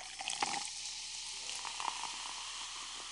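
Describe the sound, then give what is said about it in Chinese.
Steady fizzing and crackling of iced sparkling water being poured, with a couple of small clinks or splashes near the start and middle; no one speaks. “还是冰气泡水吗？我记得你初中的时候就喜欢喝气泡水”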